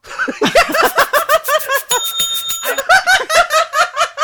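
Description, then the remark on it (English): A single bell sound effect, triggered by a button on a sound board, rings out and sustains for about a second, nearly buried under loud, continuous laughter from people. “Okay, it is word of the bell.”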